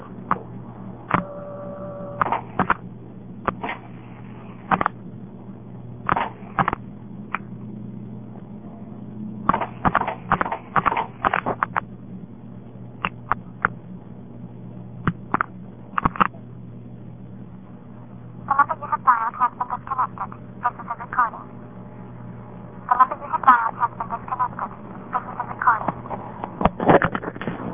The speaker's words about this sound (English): Las Vegas, just like you were dialing from a Las Vegas home phone, because you actually have a director on there, and you're dialing into the director, and you can hear the director dialing out the rest of the number.